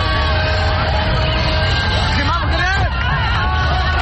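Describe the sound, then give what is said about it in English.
A loud, continuous street crowd of residents in Rabat, Morocco, shouting, chattering and applauding after preliminary parliamentary election results were announced, with sustained car horn tones blaring steadily over the din and a few wavering cries rising midway. “Moroccan TV showed residents of the capital Rabat applauding and cars honking in the streets after the announcement of preliminary election results.”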